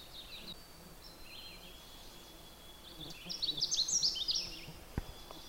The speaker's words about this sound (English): I often try to get this particular warbler, and I really don't ever get close enough. The Canada warbler is just beautiful. It likes to hang out in really brushy tangles, so it's hard to approach very closely.